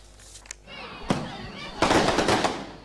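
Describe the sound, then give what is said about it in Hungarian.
Gunfire crackles in the street in Santa Cruz, eastern Bolivia, during clashes between pro-government and opposition protesters: a few sharp isolated bangs, then a dense, rapid flurry of loud cracking shots that rings out over a murmur of background noise. “Fegyverek ropognak az utcán Bolívia keleti részén, Santa Cruzban.”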